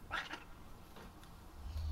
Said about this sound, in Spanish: ¿Qué es lo que te pasa? ¿Qué clase de maullido es ese? Ven aquí.